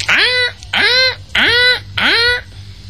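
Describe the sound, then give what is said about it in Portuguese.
Four loud, chicken-like clucking calls, each a rising squawk about half a second long, repeat in a steady rhythm, with a low hum underneath and no talking. “Que entrou para aqui alguma galinha.”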